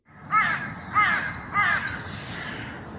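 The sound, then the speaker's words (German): Three harsh caws from crows circling overhead ring out at an even pace, loud, followed by quieter fading calls over a low rumbling outdoor background, recorded on a mobile phone. No one speaks. “Ja, die Vögel, die Krähen, die Geier kreisen über mir.”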